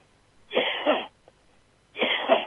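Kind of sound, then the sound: human body sound, coughing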